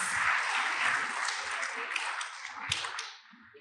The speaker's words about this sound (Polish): Tak. Należą się brawa jak najbardziej.